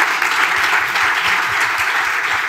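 A crowd applauds steadily for a speaker introduced to give a talk about servers, a dense wash of many hands clapping at once, loud and sustained throughout with no voices standing out.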